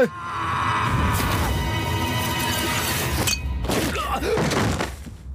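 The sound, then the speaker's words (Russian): A loud crash of breaking glass with bright, scattered high-pitched fragments, followed by a short pause and a second burst of tinkling debris and clatter; no one speaks. “Осколок стекла?”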